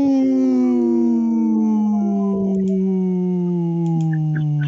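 A long, sustained howl with smooth harmonic tones that slowly glide downward in pitch, loud and continuous for several seconds, with no talking over it.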